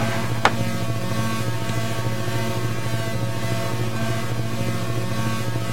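A steady synthesized drone tone holds at constant loudness, a deep hum layered with buzzing overtones, broken only by one sharp click near the start. No one speaks.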